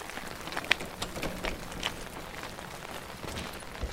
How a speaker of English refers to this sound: At least the rain's good for something. They may not hear us.